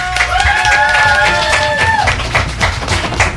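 A small group applauds with dense, steady clapping that carries on throughout, while a high sustained whistle-like tone rides over the first two seconds.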